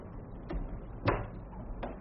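household object, door closing

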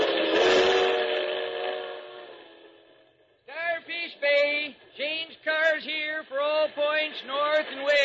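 vehicle, train passing with whistle

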